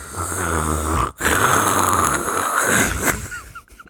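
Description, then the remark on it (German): A voice imitates heavy snoring, likened to a sleeping Darth Vader, with a long rasping, throaty breath that drags on for a few seconds, pauses briefly, then continues before trailing off. It is loud. “Du klingst wie ein schlafender Darth Vader.”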